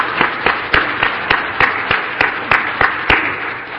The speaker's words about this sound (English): So please give them another big round of applause as they rotate off.